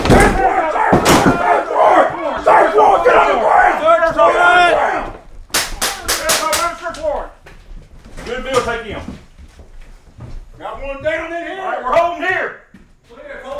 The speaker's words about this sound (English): An enormous crash pierced the silence. There was some yelling, but from the inside, I couldn't understand what they were saying. It wasn't until the door fell down that I could clearly hear Sheriff's office.